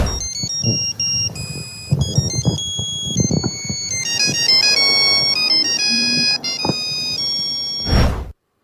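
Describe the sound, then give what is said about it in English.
A tinny, monophonic Nokia phone ringtone plays a bouncy pop song melody, beeping note after note in a quick, steady rhythm for several seconds, loud, with faint background noise underneath. “Are you ready to hear your Nokia ringtone and guess what song it is?”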